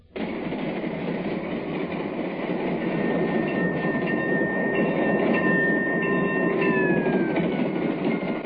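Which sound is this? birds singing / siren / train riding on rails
train riding on rails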